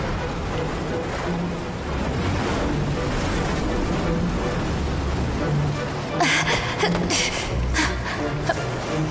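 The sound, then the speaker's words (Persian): Sea waves roll in with a steady, rushing wash of surf, the water advancing further, swelling into a few louder surges toward the end. Faint, indistinct voices may sit beneath the water noise. “عجله کن، آب داره جلوتر میاد.”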